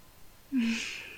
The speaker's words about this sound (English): And you're breathing way too hard. You're gonna make me lose my balance and fall over, and I'm still half asleep. You need to just relax, okay?